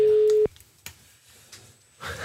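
A steady electronic telephone ringing tone of an outgoing call sounds loud for under half a second, then cuts off abruptly, leaving a quiet line with faint clicks before muffled noise picks up at the end.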